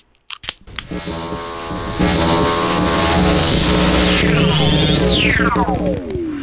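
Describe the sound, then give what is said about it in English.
Several sharp cracks and pops of energy drink cans being snapped open right at the microphone on a count of three, quickly followed by a loud, steady whirring drone that rises and sweeps in pitch. “Let's do our traditional energy drink snap in front of the microphone.”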